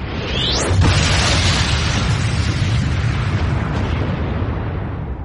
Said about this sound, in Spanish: Ese detonante fue una supernova, la explosión de una estrella. La supernova lanza una onda de choque de materiales que surcan el espacio.